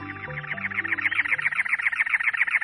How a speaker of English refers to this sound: In late April, in the Arizona desert, it's already over 90 degrees by 11 a.m., and the mercury is still rising. A cactus wren sings, perched atop a many-lobed cactus.